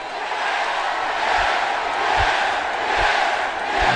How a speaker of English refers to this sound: So if I could just get one last yes chant, I would really appreciate it.